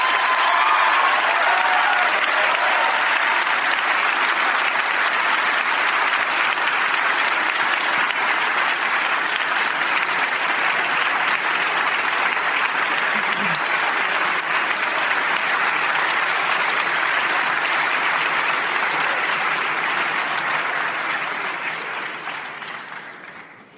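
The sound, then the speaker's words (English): Sustained applause from a large audience at a debate after a speaker finishes, a dense, steady roar of many hands clapping at once for over twenty seconds before fading out at the end, with no voices standing out. “Your hands will get tired if you clap too long for every speaker.”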